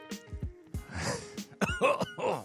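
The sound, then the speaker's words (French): A man coughs several times in close succession, raspy and throaty, with groaning voiced sounds between the bursts. “Ah, il baille encore. Ah non, il tousse.”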